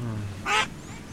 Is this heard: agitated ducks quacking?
yes